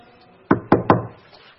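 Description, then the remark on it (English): Three firm knocks on a door with no doorbell, in a dark hallway, in quick succession, loud, each with a short ringing decay, followed by quiet. “There's no doorbell. So knock on the door.”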